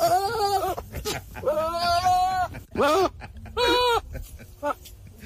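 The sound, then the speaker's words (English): A goat bleats several times, loud, quavering cries that sound strangely human, coming in quick succession with short gaps over a faint noisy background. “Goat sounds like Will Ferrell in distress.”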